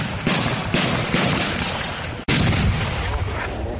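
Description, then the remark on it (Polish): Loud, dense battlefield noise at a historical reenactment of an uprising battle around a village, with repeated heavy blasts from a cannon accompanying the Russian troops and gunfire rolling over one another, broken by a brief sudden gap before the barrage resumes. “Oddziałom rosyjskim towarzyszy armata.”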